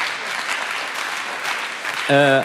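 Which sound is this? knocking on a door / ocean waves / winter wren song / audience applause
audience applause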